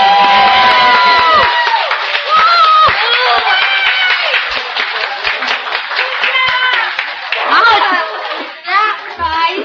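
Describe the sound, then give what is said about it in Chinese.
An audience breaks into sustained, loud applause for Sunday school children after their evening performance, a dense patter of many hands clapping for nearly ten seconds, with excited children's voices calling out and chattering over it. “他们平常是不爱的人，但他们今天晚上这么勇敢而且表演得这么好，可不可以请大家再给他们拍手一次。”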